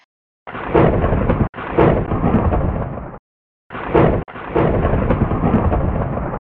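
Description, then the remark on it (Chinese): Loud thunder rolls over a steady wash of heavy rain, coming in two long bursts separated by a brief silence, each opening with a sharp crack before the rumble spreads out. “同时天空又继续落大雨、闪电、行雷。”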